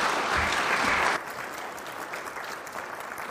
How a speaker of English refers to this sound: Let's give Andy another round of his applause as he heads back to his seat.